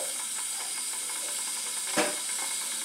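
A kettle heating water gives off a steady, close hiss of steam throughout, with one brief clink partway through and no voices.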